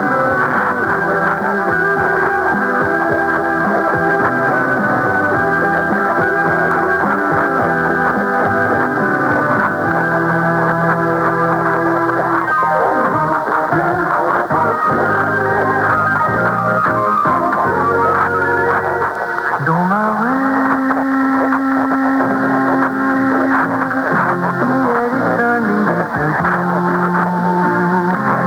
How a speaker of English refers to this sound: Now the France Blue Network on 1206 kilohertz from Bordeaux, France. Listen for the France Blue jingle, recorded 2315 UTC, February 17.